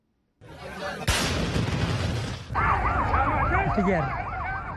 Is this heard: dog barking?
no